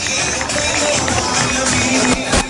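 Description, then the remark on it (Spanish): An audience applauds steadily for a couple of seconds at a trophy presentation to a football club as runner-up, a dense, continuous patter of clapping with a faint murmur of crowd noise underneath. “Aplauden los dos presentes.”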